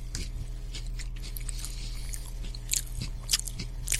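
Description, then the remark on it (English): Crunching as someone bites into and chews a crisp cookie together with a Peeps marshmallow, with irregular sharp crackles over about four seconds against a steady low hum, no talking. “I'm just taking a bite of it all together.”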